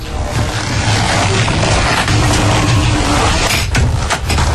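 Noisy shoes walking, a loud, steady scuffing and scraping that fills the whole stretch, with a few sharper impacts near the end.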